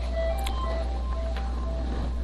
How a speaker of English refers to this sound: Somebody's phone. Okay. You know, when I first started preaching, this never happened. Never did. We didn't have phones.